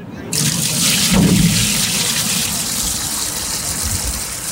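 Nearly clear maple sap gushes steadily into a boiling evaporator, a shiny metallic rectangular tub hooked to a propane tank and ringed with cinder blocks, boiled into maple syrup in early spring in Vermont; a loud, continuous rush of pouring liquid that starts abruptly and holds for several seconds with a bubbling, hissy wash.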